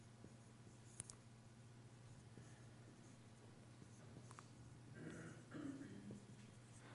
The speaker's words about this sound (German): Auf Papier schreibe ich ganz anders, wollte ich nur sagen.